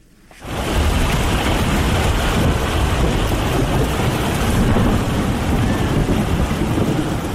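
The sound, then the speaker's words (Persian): Heavy rain pours down in a dense, steady roar with deep thunder rumbling underneath, starting abruptly and staying loud throughout. No voices are heard. “تغییرات اقلیمی در جهان، بارانهای شدید و سیلابهای غیر مترقبه را در سراسر جهان به شمول افغانستان در قبال داشته و آزمونهای موجود در این کشور را بیشتر کرده است.”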